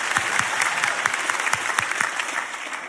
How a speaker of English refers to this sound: Clap like it's not you. No one will know.